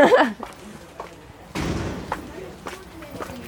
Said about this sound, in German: Wieder durch die Schleuse. Genau. Ist immer ein stetiges Türen auf, Türen zu.